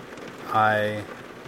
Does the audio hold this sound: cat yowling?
no